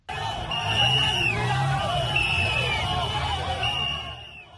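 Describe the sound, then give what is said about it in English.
Hundreds of fans in Yaoundé, Cameroon, roar and applaud as Kenya's women's volleyball team lifts the African championship gold after beating Egypt 3-0 in August 2023; a thick wash of cheering and chatter, with shrill whistle-like tones rising and falling over the din. “Hundreds of fans applaud in Yaoundé as the national women's volleyball team of Kenya lifts gold for the 10th time as women's African volleyball champions.”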